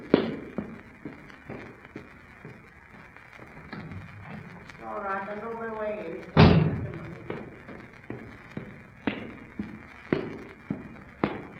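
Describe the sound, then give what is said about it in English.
A series of sharp knocks on a front door, repeating in uneven bursts, with one heavier thud midway and a short warbling, voice-like sound just before it. “Better go and see who's knocking at the front door.”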